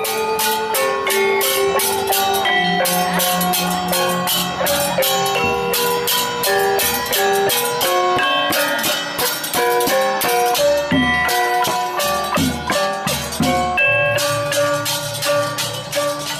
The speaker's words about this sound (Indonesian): Insan Edukasi, hari ini kita sudah belajar budaya dari gamelan khas masyarakat Bali yang disebut Gong Luang.